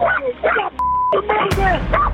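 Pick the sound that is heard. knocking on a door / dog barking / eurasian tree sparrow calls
dog barking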